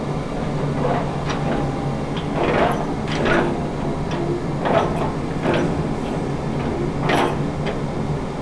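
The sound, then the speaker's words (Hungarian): Four metal latches on an iron grille door off a 3-meter-wide corridor clank shut as someone demonstrates them, in a series of sharp, ringing knocks, several spaced a second or so apart, over the steady low hum of a ventilation system. “egy 3 méter széles folyósóra érkeztünk meg, lehet hallani itt a szellőztetőnek a hangját, és ilyen vasrácsos ajtón lehet bejutni, ami egy 4 ilyen fém kalantyú van, amiben lehetett zárni”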